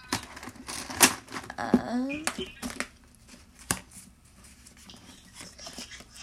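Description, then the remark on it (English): A piece of paper is grabbed and handled to write down a mailing address, with crisp rustles, crinkles and a few sharp taps scattered over several seconds, plus a brief faint murmur partway through. “Give me 2 seconds to grab a piece of paper.”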